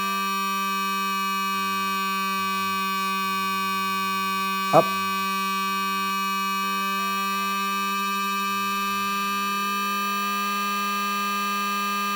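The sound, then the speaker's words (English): A steady, buzzy electronic keyboard tone, with the keyboard tuned flat, holds throughout, its slightly detuned layers beating against each other in a ring-mod-like wobble, broken once by a sharp click and a single spoken word. “It's kind of a ring mod effect, and you can hear it sort of beating against itself.”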